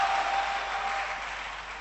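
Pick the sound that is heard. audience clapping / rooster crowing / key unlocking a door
audience clapping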